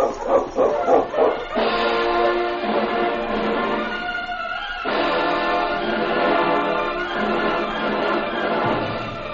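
animal, sled huskies barking

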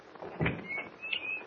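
household object, door opening

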